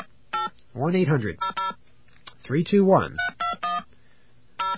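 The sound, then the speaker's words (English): A series of short touch-tone beeps dials an 800 number to reach AT&T, about a dozen crisp keypad tones in quick bursts, with a voice speaking briefly twice between groups of tones. “Let's call this 800 number.”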